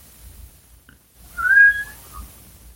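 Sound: cat meowing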